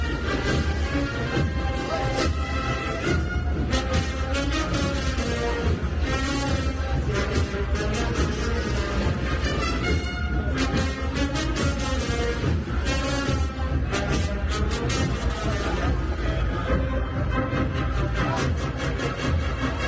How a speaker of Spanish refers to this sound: Amor regresó al polvorín, regresó a su barrio y regresó de la mejor forma posible con la agrupación musical de la cena sonando de manera espectacular, como decíamos, y acompañado por toda la Huelva cofrade.